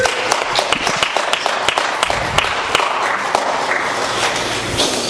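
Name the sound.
audience clapping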